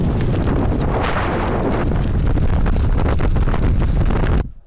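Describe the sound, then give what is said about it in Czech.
Loud, continuous wind of about 10 to 11 metres per second roars and buffets against the microphone, a dense rumbling blast that barely lets up for several seconds before cutting off abruptly at the end. “Nebo se vítr ustane, ale možná bude až do zítra.”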